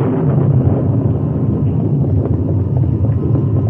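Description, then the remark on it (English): A deep, continuous rumble of thunder rolls heavily for a few seconds, loud and low with a rough, churning texture and no voices. “The rain held off, but there was an occasional lightning flash and its answering thunder.”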